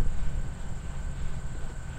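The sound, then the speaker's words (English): A small wind turbine named Gust, at the end of a bridge by the lake in Milwaukee, spinning close up, giving a steady low rumbling whoosh with a faint thin whine above it, its loudness wavering slightly but never stopping. No voices. “When she first moved to Milwaukee 5 years ago, Katie Meyer noticed it too, and she couldn't get this little wind turbine out of her head.”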